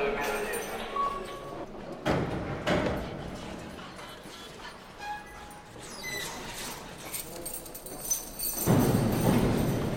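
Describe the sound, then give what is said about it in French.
Heavy prison doors clank and slam several times in an echoing space, sharp metallic bangs separated by shuffling and scraping, with faint voices murmuring in the background. “Combien de portes est-ce qu'on a passé depuis l'entrée?”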